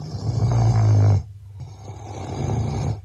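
A man snores loudly and close by, one long rumbling inhale, a brief pause, then a second raspy snore building again. No one speaks.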